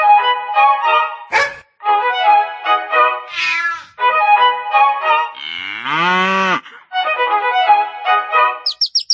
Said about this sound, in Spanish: El gato maulla.